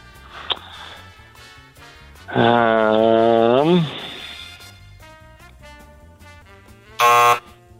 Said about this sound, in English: Yeah, sorry, I had to buzz you out there.